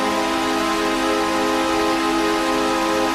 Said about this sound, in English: The New York Islanders will play their first home game of the 2015 season in the Barclays Center, their new Brooklyn Digs. That led the team to consider changing their goal horn from the one heard for decades at Nassau Coliseum.